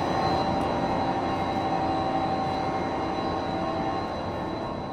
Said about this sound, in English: And I'm not going to talk too much in there because it's kind of loud. Noise. Why are they making so much noise? Yeah. That's just the hum of the motors themselves.